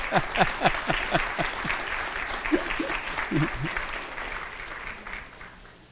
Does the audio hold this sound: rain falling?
no